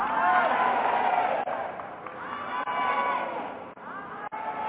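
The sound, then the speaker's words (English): A large crowd screams and cheers loudly and without letup, a dense wall of overlapping voices with high-pitched shouts riding on top and a few brief dips. “So if you're ready, I need you to scream that I'm ready.”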